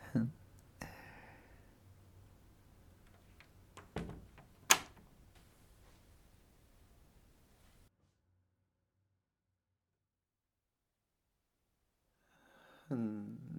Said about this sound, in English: Why don't you sit back and relax and let me lock the door and pull the blind?